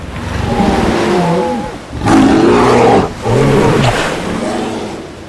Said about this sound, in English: And in the middle of the sea, they see a horrible fight between two dinosaurs, a prehistoric crocodile and a sea lizard.